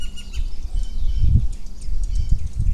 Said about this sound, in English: I'm listening to birds. I'm listening to that bird that's getting hassled by the squirrel. The squirrel is on the branch behind me.